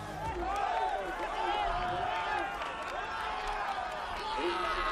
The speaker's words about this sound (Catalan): Els crits són de la seva gent a Onda, eh? Que el seu pare també hi és.